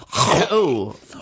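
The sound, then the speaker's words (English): A single loud throat clearing: a rough, breathy rasp that turns into a short voiced hum lasting about a second, with no words spoken. “Sorry, I'm just clearing my throat.”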